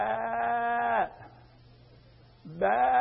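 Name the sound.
sheep bleating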